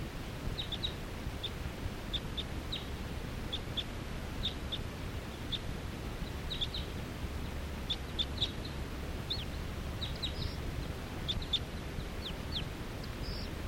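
Wild birds, apparently all females, perching in a big tall tree call in a steady scatter of short, high chirps and peeps throughout, fairly faint, over a constant low rumbling background with no talking.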